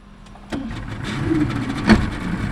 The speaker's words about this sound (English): In a much smaller boat, race announcer Andy Green motors out of Newport Harbor. We're going past Goat Island, and on the left is Fort Adams, and in front of us is the Pell Bridge.